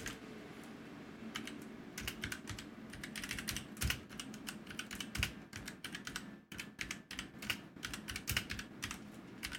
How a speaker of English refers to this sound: I'm typing it in.